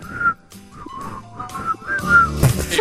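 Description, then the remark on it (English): People whistle a tune badly, a series of wavering, uneven notes with breathy gaps, ending in a burst of louder, noisier whistling. “Well, Kevin's always very critical of his ability to whistle, but I had no idea he was that good because judging by the two of you, he's got game.”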